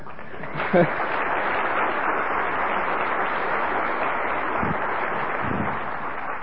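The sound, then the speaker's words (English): An audience applauds steadily for several seconds for the speaker's second child, born six days ago: a dense, even wash of clapping with no pause, and a brief vocal sound or two rising faintly above it. “That applause is for her, and I hope someday she sees the videotape that we're making of this whole thing so that she can know.”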